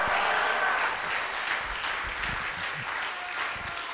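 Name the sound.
audience clapping hands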